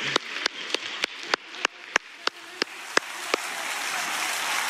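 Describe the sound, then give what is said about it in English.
A crowd claps along with a worship song in a steady, even beat, about eleven sharp claps that fade out over a soft wash of noise. No one speaks. “And you can feel free to clap with the song.”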